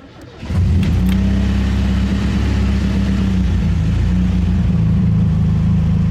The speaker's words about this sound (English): I leave the building and head towards my Suzuki. I get in and start the engine.